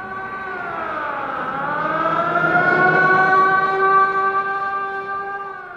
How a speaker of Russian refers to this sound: С включенной сиреной «Волга» осторожно вползла на тротуар.